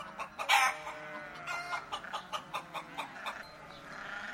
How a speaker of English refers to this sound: I hear the chickens going cluck, cluck, cluck. They are dancing all around.